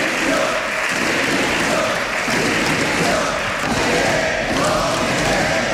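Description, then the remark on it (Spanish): A loud, sustained din of many voices shouting at once in the chamber of Spain's Congreso de los Diputados during a government control session, with shouts of "corruption" aimed at the government and of "accomplices", mixed with clapping and scattered thuds, steady and dense without pauses. “con batería de preguntas del Partido Popular sobre corrupción y con mucho ruido en el hemiciclo un día más. Gritos de corrupción dirigidos al gobierno y de cómplices pensando en Sumar y en los socios.”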